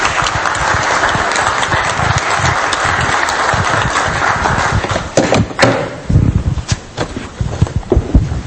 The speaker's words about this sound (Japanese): 拍手をお願いいたします。